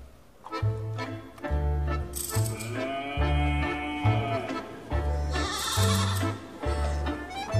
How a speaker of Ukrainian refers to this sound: а на возах і кури, і вівця скручена, й теля мекає, підвестись намагаючися за возами